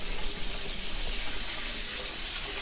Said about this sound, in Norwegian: Nå har jeg kokt en blomkål. Og så skal jeg sile av vannet på den. Så skyller jeg den i kaldt vann for å stoppe kokeprosessen, og at ikke den blir alt for bløt, da.